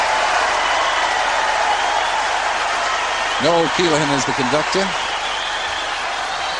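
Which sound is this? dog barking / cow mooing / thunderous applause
thunderous applause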